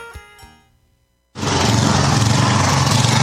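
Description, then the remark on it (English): After a brief quiet gap, the gasoline engine of a Cub Cadet snowblower kicks in abruptly and runs loud and steady, a dense roaring drone with a low rumbling throb. “Experience the ultimate in snow removal with Cub Cadet snowblowers from McFarland's.”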